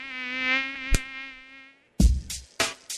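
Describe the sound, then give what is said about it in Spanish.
A mosquito of the kind that transmits dengue whines steadily for about two seconds, a sharp smack cutting in midway, then the buzzing stops and a few loud slapping thumps follow. “El mosquito que transmite el dengue vive en el agua clara, que parece limpia, y se junta en las gomas, los tachos, los aljibes, cacharros, chapas acanaladas que juntan agua, tanques de agua sin tapa y floreros.”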